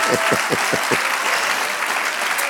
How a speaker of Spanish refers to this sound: Denle un aplauso. Ahora se lo da el Señor.